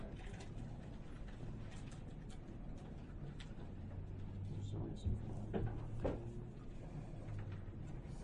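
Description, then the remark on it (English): A door swings shut with a single solid thud midway through, at a township meeting, set against a low steady hum and indistinct murmuring voices. “would you please shut that door?”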